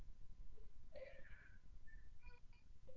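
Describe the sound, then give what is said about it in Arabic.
A young child cries faintly, a few short whimpering wails rising and breaking off over a low, steady background rumble. “لو سمحت حدا يشوف هالطفل هيدا ما يبكي.”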